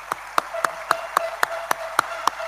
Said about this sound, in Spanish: Para ustedes, si ustedes me permitan, para ustedes, los que integran mi equipo, este fuerte aplauso.